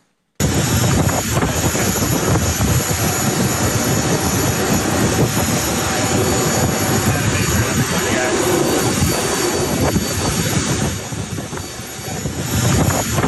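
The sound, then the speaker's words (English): A loud, steady jet engine roar with a high whine on top from a jet waiting on the tarmac at the airport in Cancun, continuous, dipping briefly near the end; faint indistinct voices may sit beneath the noise. “the ICAOs and the congressman were racing off to the airport in Cancun, where, like you saw at the top of the show, that jet was waiting on the tarmac.”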